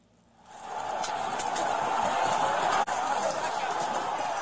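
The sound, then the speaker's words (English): A rowdy crowd clashing with police, some throwing flagpoles with MAGA and American flags like spears at law enforcement, roars in a chaotic clash, dense overlapping shouts and commotion swelling in quickly and holding steady, broken by a momentary cut near the end. “This is what a loving crowd sounds like.”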